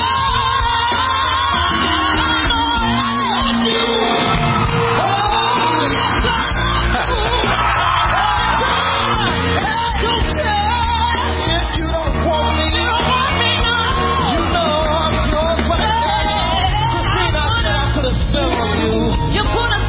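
A loud rhythm-and-blues record plays continuously, with a raw, shouting lead vocal that strains and wails over a steady band, sounding slightly muffled like an old recording.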